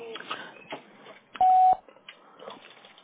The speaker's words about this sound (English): Please leave a message at the sound of the beep. Mahalo.